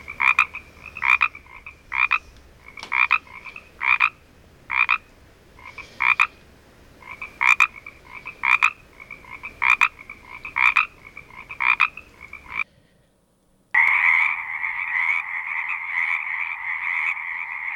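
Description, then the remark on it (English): Chorus frogs, also known as tree frogs, call in quick, rhythmic bursts of raspy trills, repeated steadily, then a brief pause gives way to a dense, continuous chorus of overlapping calls. “These are chorus frogs, also known as tree frogs.”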